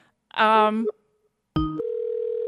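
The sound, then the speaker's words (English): A brief warbling electronic tone, a short pause, then a click and a steady, buzzy telephone ring tone of an outgoing call that holds until the end, heard through a phone line. “Let me try to call the other line and see if that works, even though this is the line they said to call on.”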